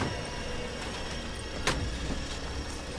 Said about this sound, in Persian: ماشین رجبوف میره.